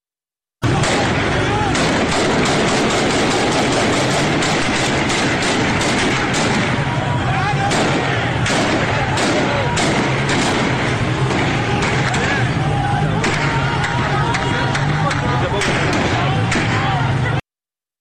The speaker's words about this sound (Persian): همینطور که مشخص است تیراندازی شدیده. در اهواز هم ویدیوها صدای تیراندازی رگباری در ویدیوها شنیده میشه ولی مردم در خیابون ایستادن و با وجود این تیراندازی فرار نمی کنن.